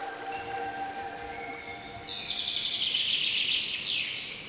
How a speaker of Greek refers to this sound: Ανάμεσά τους κυλά το ποτάμι, άλλοτε ήρεμο και άλλοτε ζωηρό. Με το αδιάκοπο τραγούδι του νερού να συνοδεύει κάθε βήμα.